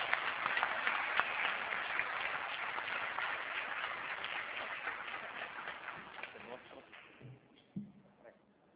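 A crowd applauds colleagues being thanked, with steady, dense, crackling claps that slowly fade out over several seconds, leaving a few scattered claps and faint murmurs at the end.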